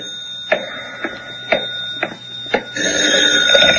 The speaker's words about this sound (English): But even as I started to open my door, the phone rang.